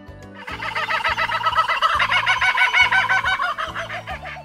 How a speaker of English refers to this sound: Do you see that bird? It's a kookaburra.